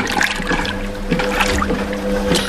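Water gushes and sloshes steadily inside a washing machine as it fills with hot, soapy water to wash clothes, with a low motor hum beneath and rhythmic swishing bursts, loud with no voices.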